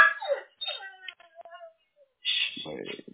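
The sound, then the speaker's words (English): A dog barks in a few short, high-pitched, whiny bursts, broken by brief pauses, with a louder cluster of yips near the end. “Be quiet. Details come through. Blah, blah. Oh, you can bark. I don't care.”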